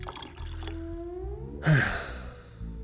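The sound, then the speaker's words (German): Water is poured steadily into a glass, its hollow gurgling tone rising in pitch as the glass fills, followed by a brief louder splash or knock near the end. Nobody speaks. “Aber könnten wir noch etwas Wasser?”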